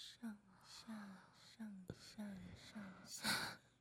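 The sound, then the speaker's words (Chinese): Heavy, rhythmic breathing from a woman, about six breathy gasps and sighs in a row, each with a soft voiced edge, ending in a louder, more forceful exhale; she is masturbating in time with the rhythm. “听到姐姐的呼吸声了吗？”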